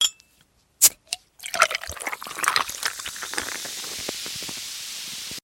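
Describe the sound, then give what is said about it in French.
A couple of sharp clicks, then a refreshing, sparkling Cacolaco drink is poured into a glass on a hot day, the steady pour giving way to a crackling, hissing fizz that lingers to the end. “Cette boisson est rafraîchissante en même temps pétillante.”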